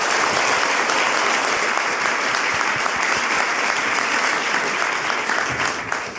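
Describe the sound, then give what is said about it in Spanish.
Loud, sustained applause from an audience welcoming Alejandra Llamas, a dense wash of many hands clapping that holds steady for several seconds before easing slightly at the end. “Así que un fuerte aplauso a Alejandra Llamas.”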